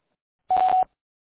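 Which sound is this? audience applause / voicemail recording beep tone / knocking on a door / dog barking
voicemail recording beep tone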